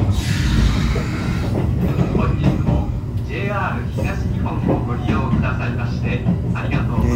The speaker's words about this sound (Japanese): 今私がいるのは東京の品川駅ホームです。で今私は特急ひたちの中にいまして、今まさに列車が発車したところです。